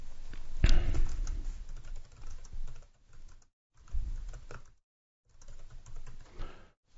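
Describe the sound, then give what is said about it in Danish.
Rapid clicking of computer keyboard keys in several bursts separated by brief pauses as text is typed into a page, fairly quiet, with no voices. “Så jeg går ind og indsætter tekst, og så skriver jeg så her, hvad hedder det?”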